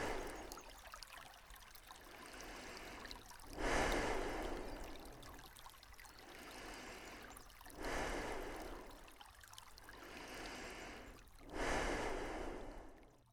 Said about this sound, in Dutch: Laat al het andere voorbij gaan, net zoals de stromen van het beekje.